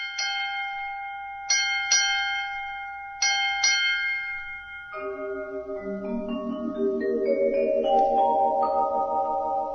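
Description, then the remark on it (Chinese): Eight bell chimes ring out clearly at the opening of the program Tian Lai Zhi Yin, with no talking: three slow, resonant strikes with lingering decay, followed by a quicker run of overlapping chimes climbing upward in pitch and swelling slightly louder. “所以啊，每一次节目一开始都会有八下钟声。”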